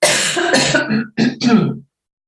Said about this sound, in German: Und Achtung, Husten.